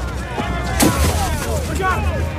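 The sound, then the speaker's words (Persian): A single sharp gunshot cracks out near the start, loud, fired into the air by a masked man attacking tax officers, with agitated voices and shouting carrying on around it over a steady low rumble. “سیاوش شلیک هوایی میکنه.”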